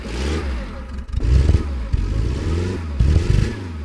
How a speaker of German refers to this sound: Das ist ein NSU TT